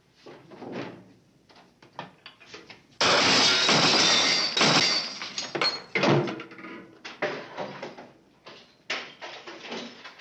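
A loud crash of glass shattering bursts in suddenly during a film chase sequence, followed by a scattered tinkling of falling shards and clattering debris that trails off over several seconds.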